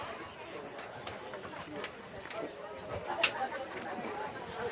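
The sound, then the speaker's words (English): Spectators chattering as they arrive at a baseball game against the Verzales Tigers, some having parked on a nearby street and walked across yards: a steady, low murmur of many overlapping voices, with no clear words, broken by a few brief sharp clicks. “Yeah, I hear some people rolling in.”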